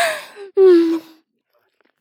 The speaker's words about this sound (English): I'm gasping around this incredible cock of yours.